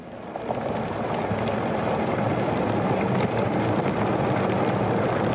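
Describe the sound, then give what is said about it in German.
A dog chews on a collar, a steady, dense stream of crunching, rustling and small clicks that runs without pause for several seconds, with no voices. “Und es war ja eigentlich ganz klar, es ist ein Hundehalsband, was gerade von einem Hund aufgefressen wird.”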